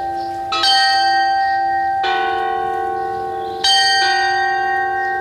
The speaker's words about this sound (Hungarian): Akkor mi meg most egy picikét csöndben maradunk, mert nem sokára kezdődik az órajáték